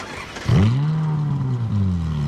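A car engine revs up sharply and accelerates, its loud, steady drone climbing and holding before shifting pitch once more, prominent with no talking.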